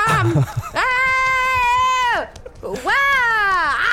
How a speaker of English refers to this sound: …'s just screaming and trying to look inside her own throat